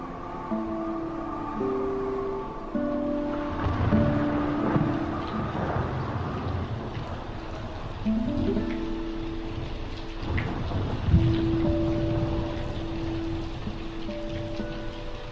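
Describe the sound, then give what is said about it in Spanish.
Steady rain patters on the rooftops of houses while a whistling wind sounds in long, shifting tones, with a few louder surges of downpour and low rumble; no voices. “Solo se oía el silbido del viento y el repiquetear de las gotas de lluvia contra los tejados de las casas.”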